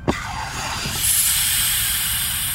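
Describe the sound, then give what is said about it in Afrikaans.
A sharp click gives way to a loud, sustained pneumatic hiss that swells after a second and holds steady, like pressurized air venting as a sealed capsule holding a person in an induced coma is unlocked. “Ek ontgrendel die kapsule. Ek ontsluit die kapsule.”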